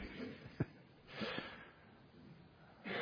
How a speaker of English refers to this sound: If you want to cough, please go for it. I like leading by example.